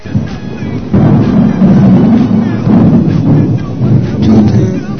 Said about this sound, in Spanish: Con la terrible tormenta, Jonás se despertó. ¡Chucha! ¡Una tormenta!